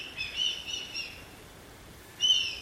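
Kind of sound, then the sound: bird, red kite calling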